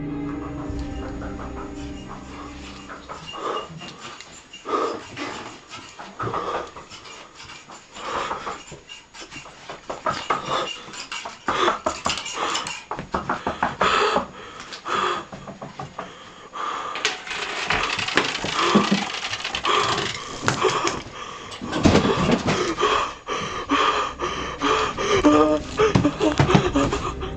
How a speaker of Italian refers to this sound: Il video lo mostra mentre si fa strada per la casa e respira in modo affannoso, chiaramente spaventato.